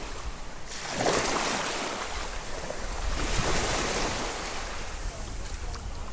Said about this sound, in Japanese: 座間味島にやってきまして、海のこの波の音聞いてください。